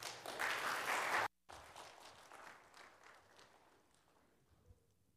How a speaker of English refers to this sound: Really, you should have reserved the applause for afterwards. You might not have wanted to applaud afterwards.